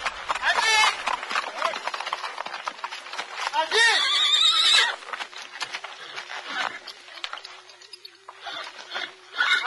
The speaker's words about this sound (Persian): پدر محمد سوار بر اسب از کنار مدرسه میگذره و با تعجب میبینه که محمد بین بچه های دبستانه.